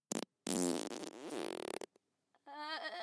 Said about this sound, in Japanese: おならが濃くなる。 私がおならをするたび、箱の中はおならの濃度が上がる。呼吸困難になるほどの臭い空気になるの。